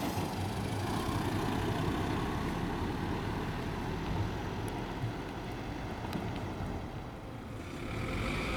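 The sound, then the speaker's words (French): Steady, dense traffic rumble fills the scene, a continuous low engine drone from passing cars and a bus with wind noise on top, fairly loud throughout, no voices. “J'entends les bruits de voiture.”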